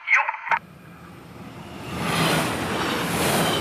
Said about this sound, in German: Nach ein paar Minuten Wartezeit ist der Zug dann vorbei und die Schranken gehen hoch.